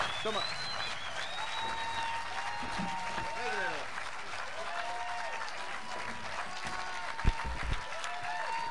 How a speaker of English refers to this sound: Hey, Lost in the Fog. That's a great Stevenson clapping bunch there.